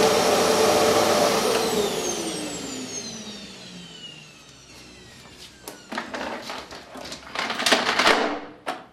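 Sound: vacuum cleaner running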